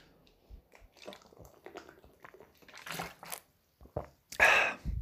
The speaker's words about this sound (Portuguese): Até ouviste aqui a água a escorregar pela garganta abaixo, aí não que não ouviste.